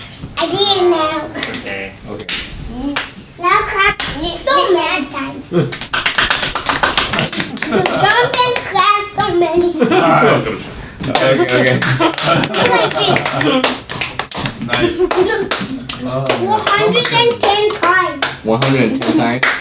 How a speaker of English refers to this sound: Clap. You ready to clap? One time.